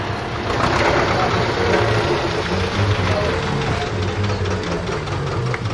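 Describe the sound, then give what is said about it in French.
A farmer's tractor engine runs steadily, a low rhythmic chugging and knocking rumble that continues without a break throughout, with faint birdsound in the background. “Voilà, donc on vient de sauter du tracteur du camarade paysan.”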